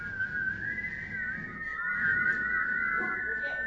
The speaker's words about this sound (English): Maybe you've never whistled in church before. I got a lousy whistler, but so I need help. I need help.